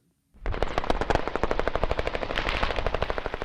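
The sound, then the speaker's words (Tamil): Sustained automatic gunfire rattles in rapid bursts, loud, with sharper rifle shots mixed in, a continuous volley of combat fire with no talking, as Iraqi special forces fight Islamic State militants using mortars, guns and machine guns in Mosul, Iraq. “ஏவுகணை, மோட்டார், துப்பாக்கி மற்றும் இயந்திர துப்பாக்கிகளை பயன்படுத்தி இஸ்லாமிய அரசு தீவிரவாதிகள் கடும் எதிர்ப்பை காட்டி வருவதாக போரிடுகின்ற ஆயுதம் தாங்கிய வாகனத்தில் பயணித்துச் செல்லும் பிபிசி செய்தியாளர் ஒருவர் தெரிவிக்கிறார்.”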